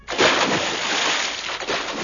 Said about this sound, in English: They've fallen into water.